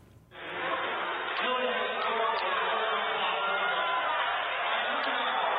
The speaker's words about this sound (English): There you go. And the people are cheering. What the hell is that? This is in Melville.